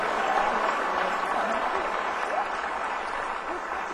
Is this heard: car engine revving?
no